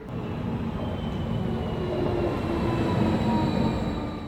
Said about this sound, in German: RE 50 nach Hildesheim Hauptbahnhof über Braunschweig. Vorsicht bei der Einfahrt.